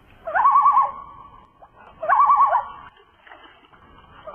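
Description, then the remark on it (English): Two wavering, warbling calls, each rising and trembling around a steady mid pitch, imitate a loon's cry, made by Snoopy the dog playing the animals in a Christmas play, with a short pause between them and no talk. “He's even a good loon.”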